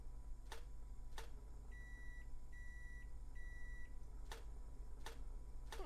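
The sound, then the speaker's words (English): A toaster pops sharply twice, then a microwave gives three long, even beeps in a row, followed by three more quick pops, all over a steady low hum with no talking. “The toaster and the microwave. 3 short pops. 3 long beeps. 3 short pops.”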